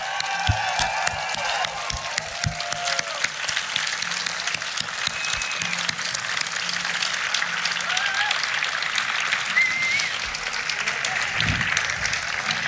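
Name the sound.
crowd applause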